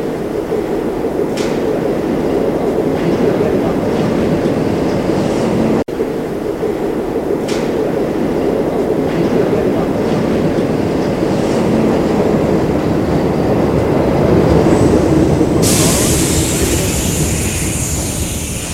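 A metro train rumbles steadily along the rails, with periodic clacks and squeals over a constant low roar, rising to a brighter high-pitched screech near the end. No voices.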